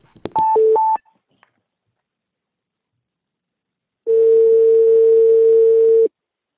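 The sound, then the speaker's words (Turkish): A telephone is dialed for a live studio-to-studio call on Radyo Karavan: a quick run of three touch-tone beeps, then after a pause a single long, steady ringing tone lasting about two seconds. No one speaks. “Ben şu an Eşref'in telefonunu çeviriyorum ve çalıyor.”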